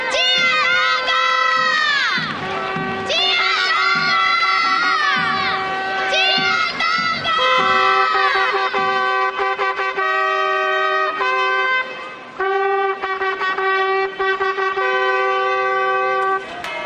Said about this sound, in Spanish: que visten túnicas y antifaces que se colocan sobre cestos de mimbre en las cabezas y coronas rematadas con plumas de colores, haciendo sonar sus trompetas y tambores entre los gritos de la chiquillería.